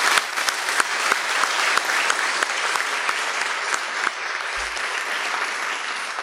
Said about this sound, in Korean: 이 네 분을 포함해서 우리가 이렇듯 은혜로운 예배를 드릴 수 있도록 보이지 않는 곳에서 수고하는 많은 봉사자들에게 우리 한번 감사와 격려의 박수를 드립니다.